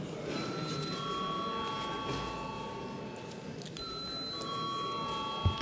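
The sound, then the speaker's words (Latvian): A voting call bell in the Latvian parliament rings steadily for several seconds before deputies vote on a bill. It is a sustained electronic chiming tone that shifts pitch a couple of times, heard at moderate volume against a faint hum. “Paldies, lūdzu zvanu.”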